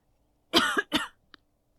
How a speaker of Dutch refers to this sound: Ik zit even een kriemel in mijn keel, dus ik ben even aan het voelen of ik even moet kuchen. Mm-hmm. Dat mag. Ja, ik moet wel even kuchen.